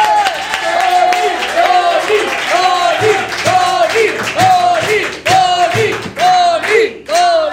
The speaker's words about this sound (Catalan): Així que rebem amb un fort aplaudiment a Toni Soler!